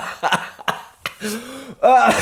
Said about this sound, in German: Sorry, ich habe so einen scheiß Husten. Ich muss nicht immer, wenn ich zu fest lache, muss ich husten.